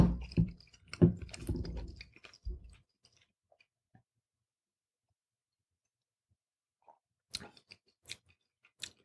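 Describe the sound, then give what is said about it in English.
Wet, crunchy chewing of roasted chicken, eaten while tasting it with Pinot Noir wine, fills the first few seconds, then a long silence, followed by a handful of sharp smacking clicks near the end. No one speaks. “Not grilled, excuse me, roasted chicken.”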